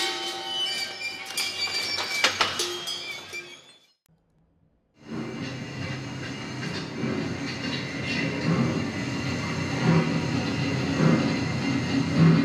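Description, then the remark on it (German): A home-built noise machine made from old military and agricultural parts, at the Auto- und Technikmuseum Sinsheim, clatters and roars loudly with sharp metallic knocks, cuts out for about a second, then starts again as a steady, dense mechanical rumble and rattle. No one speaks. “Er hat sich aus alten Teilen aus dem Militär- und Landwirtschaftsbereich ein Unitz-Stück zusammengebaut, das eigentlich nur dafür da ist, Lärm zu produzieren und die Museumsbesucher zu erstaunen.”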